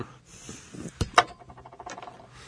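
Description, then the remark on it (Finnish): A roll of tape rolls and falls on its own: a soft rattling patter, then a dull thud and a sharper clatter in quick succession, trailing off into faint scattered ticks. “Se onkaan anteeksi, teippirulla pyörtyy. Se muuten liikahti nyt.”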